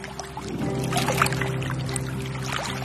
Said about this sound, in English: But looking at the foggy water underneath our boat, out there on the lagoon, the threat seems real enough.